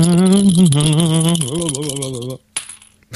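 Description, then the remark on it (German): A voice imitates dice being shaken and rolled with the mouth: a wobbling, rattling vocal sound for a couple of seconds, loud, then a brief pause and a short burst. “Ja, dann würde ich sagen, dann würfeln wir mal eine Zahl zwischen 1 und 54.”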